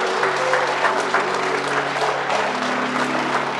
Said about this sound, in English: I don't know of anybody that's worthy of that applause except Jesus. The Bible said, make a joyful noise unto the Lord and clap your hands, all ye people.